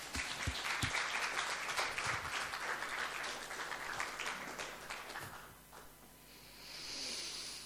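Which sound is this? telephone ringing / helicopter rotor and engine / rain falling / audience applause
audience applause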